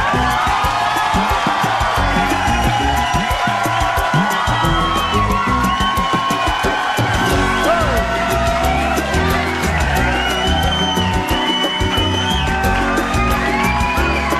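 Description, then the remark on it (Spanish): A loud, sustained crowd cheers and applauds for the whole stretch, with whoops, yells and shouts rising over a dense wash of clapping; the applause is dedicated to mothers for Mother's Day. “Y esos aplausos.”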